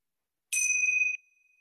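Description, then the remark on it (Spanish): A single bright strike of a small hand bell with a sharp attack, its clear high tone ringing on and slowly fading into a soft, lingering shimmer, rung to open a guided meditation. Nobody speaks. “Entonces, para comenzar, yo aquí tengo mis campanitas. Los invito a que cuando escuchen el sonido de las campanas, cierren sus ojos y se sienten cómodamente.”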